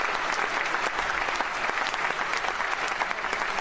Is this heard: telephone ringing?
no